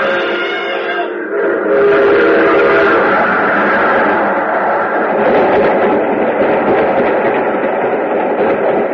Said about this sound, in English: There's a train coming. There he goes. He's going to try to beat it.